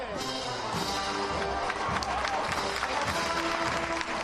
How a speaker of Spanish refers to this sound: Y Triana también rompe, pero rompe en aplauso sobre los pies el palio de la Virgen de la Estrella, que continúa por la calle San Jacinto.